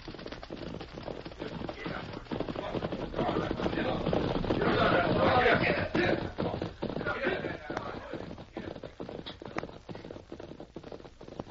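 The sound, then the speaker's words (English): A big bunch of riders on horseback gallops past along a trail in a dense, overlapping clatter of hooves, swelling louder in the middle as they pass, then fading slightly as they move on. “Riders in a big bunch.”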